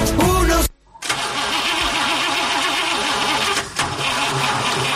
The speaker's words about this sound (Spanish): ¿Qué le pasa a mi coche? No arranca, no entiendo nada.